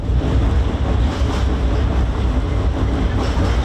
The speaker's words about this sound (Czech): Huk tramvaja preko mosta na Savi, jednog od simbola glavnog grada, prema najavama vlasti, broji svoje posljednje mjesece.